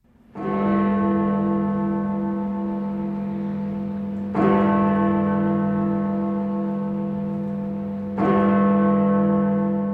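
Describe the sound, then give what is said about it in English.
Church bells of Westminster Abbey ringing loudly at a special commemoration service marking 80 years since the end of the war in Europe, with three heavy strikes about four seconds apart. Each strike blooms into a rich, humming tone that sustains until the next one. No voices are heard. “Ringing out at Westminster Abbey at a special commemoration service.”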